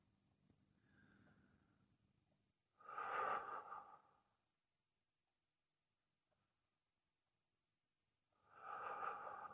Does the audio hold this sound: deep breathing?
yes